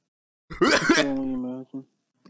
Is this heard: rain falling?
no